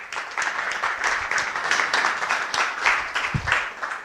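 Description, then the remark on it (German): An audience applauds a speaker at a live-streamed talk for several seconds, a dense, even wash of many hands clapping at a moderate, constant level with no one speaking over it. “Alles klar, großen Applaus, viel Spaß im Stream und Dankeschön,”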